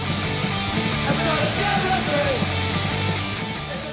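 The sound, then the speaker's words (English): A loud, dense burst of punk rock: a wall of distorted guitars over pounding drums, holding a steady, driving intensity for the whole few seconds. “That's the song … by the band ….”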